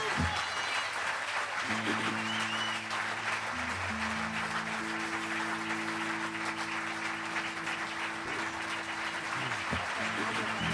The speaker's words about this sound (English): Io direi ancora un grande applauso